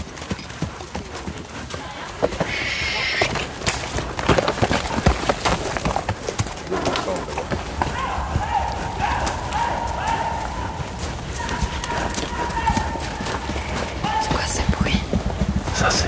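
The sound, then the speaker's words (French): Horses' hooves clip-clop steadily on the ground in the heart of a forest, as mounted hunters gather for a hunt, many hoofbeats overlapping at moderate loudness, with a brief whinny and voices in the background. “Et là, on retrouve l'ensemble des veneurs à cheval qui sont rassemblés.”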